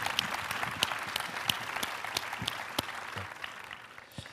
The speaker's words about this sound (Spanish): Un aplauso para él.